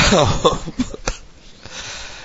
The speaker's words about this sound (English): What's stopping you? My cough.